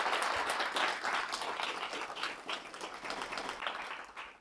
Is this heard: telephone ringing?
no